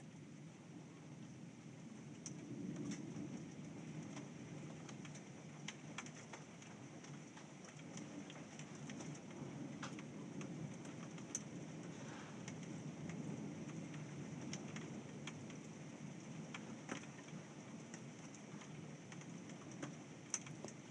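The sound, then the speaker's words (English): Hail pelts down steadily on a Sunday in November, a dense patter of sharp little ticks and taps striking the windows over a low rushing wash, continuing evenly throughout with no voices. “Ooh, there's some hail. Here it comes again.”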